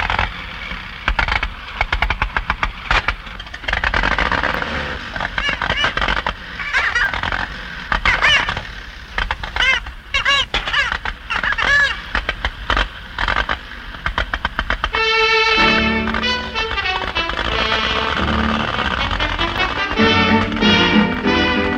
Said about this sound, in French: on entend les pas qui sont faits avec des balles de ping-pong. Une est crevée, l'autre ne l'est pas